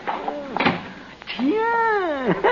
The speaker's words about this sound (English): shut the door quick.